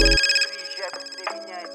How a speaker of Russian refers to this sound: Соскочил с утра, звонок на мобилу, звонит брат.